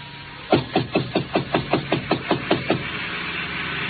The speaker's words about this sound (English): I got to Chinook's and it was closed. I knocked on the door.